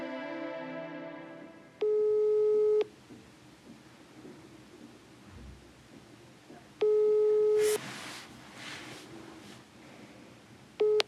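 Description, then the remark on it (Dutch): A phone ringback tone, from a call to the owner of a care farm, sounds three times in slow, evenly spaced bursts of about a second each, clear and steady over a low rumbling background like thunder. “Daarom bellen we haar.”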